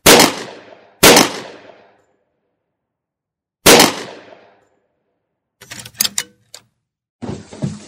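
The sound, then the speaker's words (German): Three loud, sharp gunshots ring out at night with echoing tails, two close together and a third after a pause, followed by a burst of rapid clattering cracks and a short stretch of rough noise; a burglar shooting at a man. “Und dann wurde die lastende Stille durch mehrere Schüsse zerrissen.”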